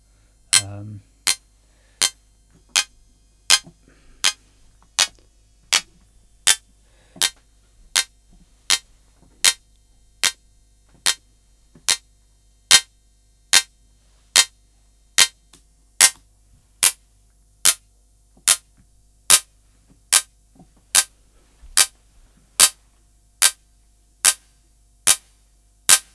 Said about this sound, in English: But when the density pop is like 12 o'clock or less, you get these short little pulses.